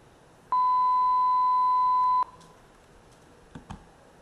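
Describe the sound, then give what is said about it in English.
A single steady, pure telephone tone sounds loudly for under two seconds and cuts off abruptly, followed by quiet line hiss and two faint clicks. It is sent over voice over IP while calling a real number on the public telephone network, in a simulation built on a modified Asterisk PBX. “Bearing in mind this is a complete simulation, I'm calling real phone numbers that are in the public telephone network over voice over IP.”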